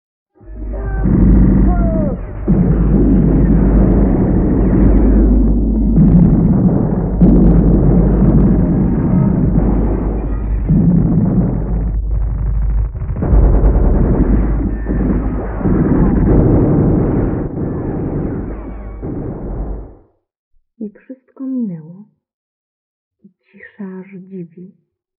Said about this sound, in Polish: Szarpnęły skłębienia wybuchów i trzasły przez mózg CKM jak bicze.